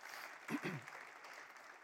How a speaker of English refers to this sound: I'm clapping for you. Way to be.